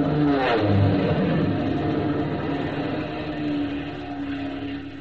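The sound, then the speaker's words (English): An AT-6 propeller airplane roars past low overhead in a buzz job, its loud, rumbling engine drone holding steady with a rising pitch sweep early on, then easing slightly toward the end. No one speaks. “Somebody ought to teach him what you can and can't do with an airplane.”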